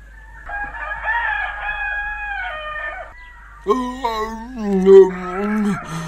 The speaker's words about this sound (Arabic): الويل لك أيها الديك، مرة أخرى أصبح الصبح والديك يزعجنا بصوته الكريم، ولا أدري كيف أتصرف معه.